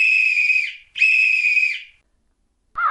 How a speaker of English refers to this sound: This made her angrier than before, and she blew her silver whistle twice.